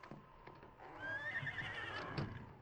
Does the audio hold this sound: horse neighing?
yes